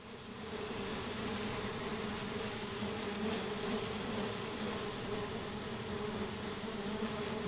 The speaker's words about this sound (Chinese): 您现在听到的嗡嗡作响的是一种非洲苍蝇彩彩蝇。您或许不会想到，这种苍蝇会导致人畜罹患严重疾病，构成了非洲面临的一个重大挑战。